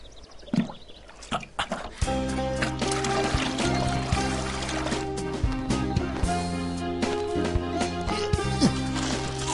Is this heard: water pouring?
yes